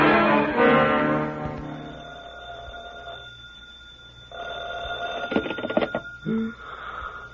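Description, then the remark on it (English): A telephone rings in a couple of sustained bursts with a pause between, followed by some clattering noise and a brief final tone, with no talking. “Well, I've been answering my phone this way all week.”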